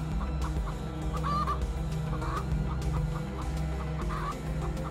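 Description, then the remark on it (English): A chicken being cuddled clucks in a string of short, repeated calls at an uneven rhythm, clear, over a steady, dense low background hum with no talking. “You can keep cuddling the chicken.”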